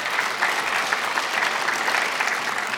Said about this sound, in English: You know why you applaud? Because it's a victory that God won.